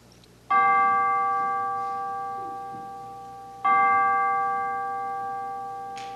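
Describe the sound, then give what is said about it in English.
In a church worship service, the Trinity Chimes are rung: two loud, resonant chime tones ring out a few seconds apart, each struck cleanly and left to hum and fade slowly, with no voices alongside. “We will now have the ringing of the Trinity Chimes”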